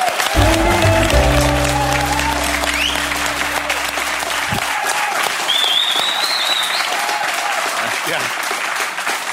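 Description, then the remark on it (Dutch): A crowd applauds Maarten Ducrot steadily, a dense wash of clapping that stays loud for the full stretch, with a low music sting and a few cheers mixed in at the start. “Dames en heren, applaus voor Maarten Ducrot.”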